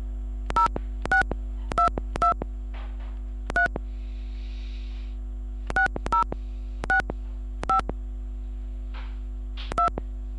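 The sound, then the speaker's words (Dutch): Ten short touch-tone beeps as a phone keypad dials a 10-digit mobile phone number into an automated KPN Mobiel telephone information system, pressed at an uneven pace with brief pauses, over a steady low electrical hum and no voices. “Om u goed van dienst te kunnen zijn, dient u nu uw 10-cijferige mobiele telefoonnummer in te toetsen.”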